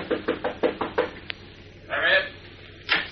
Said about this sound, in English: Finally, he finds room 314, the number Batman had given him, at the end of the hall. He stops and knocks on the door.